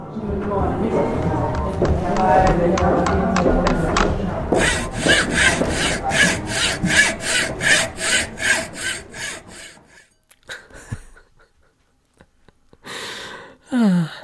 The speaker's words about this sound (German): Mit der Säge.